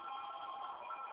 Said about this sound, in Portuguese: Só um momentinho que tocou o telefone, que cortou toda a ligação.